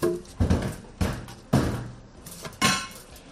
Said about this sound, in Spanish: Ya ha comenzado la colocación del vallado de los encierros de San Fermín un año más a cargo de la carpintería Hermanos Aldaz de Puente la Reina, que se encargan desde 1992. Pamplona, hoy a la mañana sonaba así.